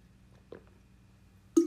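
A quiet sip of water: a brief wet slurp in silence, followed a moment later by a louder mouthy gulp or breath.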